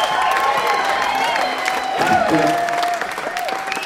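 A large audience at a band's live concert claps steadily and loudly, with shouts and cheers rising over the dense, continuous applause that fills the whole stretch before easing slightly near the end; the clapping keeps going in place of the band walking off stage and returning for more songs.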